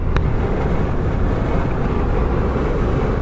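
Steady low rumble of a car interior, a constant engine and road drone filling the background with no talking, plus a brief faint click near the start.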